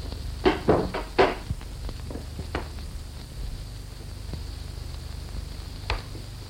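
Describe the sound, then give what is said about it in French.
A door is opened with a cluster of wooden clunks and latch clicks in the first second, followed by a few softer knocks over a quiet, steady low hum. “La porte s'ouvre.”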